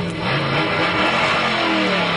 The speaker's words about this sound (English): Greg, I can hear the engines revving now.